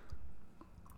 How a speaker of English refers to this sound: You haven't even taken a sip of your seltzer. I wonder how that's going to sound.